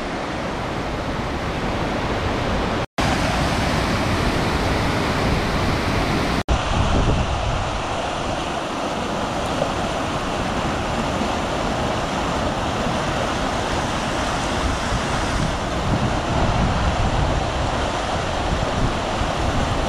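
A steady, loud roar of rushing floodwater fills the whole stretch without letup, broad and churning like a heavy flow, with floodwater passing a bridge and flowing over a road; no voices and only a brief break near the start.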